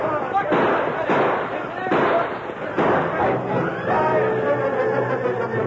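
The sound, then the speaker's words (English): Four loud, booming gunshots go off about a second apart as a posse opens fire from a stagecoach on ambushing outlaws, followed by a rough, rumbling stretch with faint tonal sounds underneath. “First, they tried to return the fire of the posse.”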